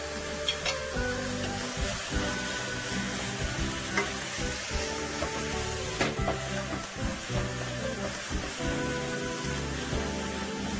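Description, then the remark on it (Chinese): Steady, dense sizzling of yu xiang shredded pork stir-frying in a hot wok over high heat just after the seasoning sauce is poured in, with intermittent scraping and stirring clatter running through the whole stretch, fairly loud, no voices. “好，这样子的话就可以起锅了哈，这样就可以起锅了，啊，超好吃的。”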